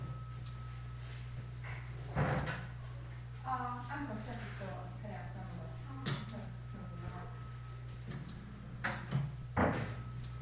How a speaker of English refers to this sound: You know, I think if you don't mind, I'm gonna shut this door and get cut out some of that noise.